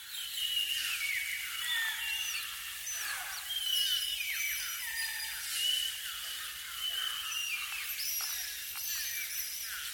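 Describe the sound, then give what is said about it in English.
Sped-up whale calls chatter like birdsong: a dense, continuous stream of quick, high-pitched chirps, whistles and sweeping squeals overlapping for the full ten seconds, with a steady faint hiss underneath and no voices. “And many of the sounds that emerge, just as the blackbird sounded like a whale when we slowed it down, these sped-up whale calls start to sound an awful lot like birdsong.”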